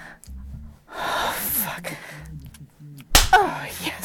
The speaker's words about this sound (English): Oh, fuck, yes, slap my ass again.